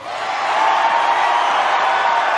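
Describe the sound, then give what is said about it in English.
A large crowd at a speech in Pensacola, Florida cheers and roars in reaction to the speaker, a dense, steady wash of noise that swells slightly at the start and then holds loud and unbroken for a couple of seconds. “Just listening to the crowd react, he understands what makes America great.”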